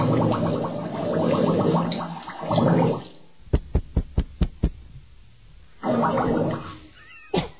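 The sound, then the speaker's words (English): A quick run of about six sharp knocks on a bathroom door, Stedman knocking to try to get Oprah out, evenly spaced and crisp, set between stretches of loud rushing, gurgling noise before and after. “I think you're going to hear Stedman, I believe, knocking on the door to try to get Oprah.”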